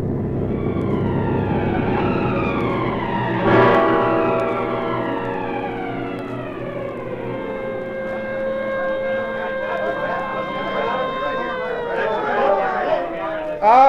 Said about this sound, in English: The ambulance is just arriving.